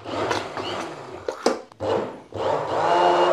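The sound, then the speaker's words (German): A blender whirs in bursts, puréeing boiling-hot yellow soup, its motor grinding and churning through the liquid with sharp clatters and brief pauses between runs, the pitch rising again as it restarts. “So, ich finde, beim Pürieren darf es jetzt auch nicht zu ungeduldig sein, weil es ist kochend heiß und quietschend gelb.”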